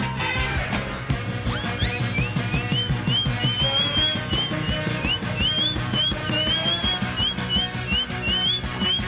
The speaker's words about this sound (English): Play funny whistle.